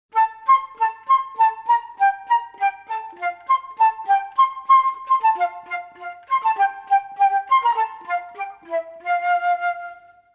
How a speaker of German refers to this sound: Speziell interessant für Silvester ist da gleich das erste Holzblasinstrument, die Querflöte. Denn die Querflöte kann mit ihrem hohen und hellen Klang zwitschern und pfeifen wie ein Vogel.